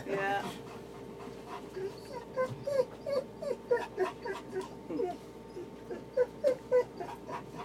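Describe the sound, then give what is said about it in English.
A large male guide dog pants in quick, steady bursts, with a few soft whimpers mixed in, over a low rumbling background hum. “He's doing a great advert for guide dogs.”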